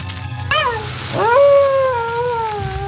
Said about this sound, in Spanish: el siniestro aullido de un lobo solitario se deja escuchar a lo lejos